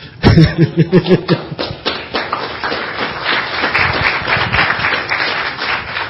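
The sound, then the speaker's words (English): An audience at the close of a meeting breaks into applause, starting with a few distinct, rhythmic claps that quickly swell into dense, steady clapping with some laughter and murmuring mixed in. “Oh well, somebody clap.”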